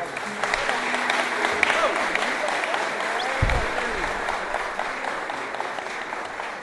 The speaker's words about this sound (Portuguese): não sei o nome da outra ainda, mas as duas recebem uma salva de palmas e chega pra cá.